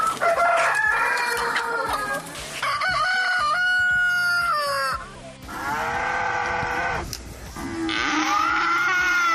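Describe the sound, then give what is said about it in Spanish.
A rooster crows loudly and repeatedly in a rural area, several long rising-and-falling calls, with other farm animals mooing and clucking in the background and no one speaking. “del gallo que los despierta por la mañana”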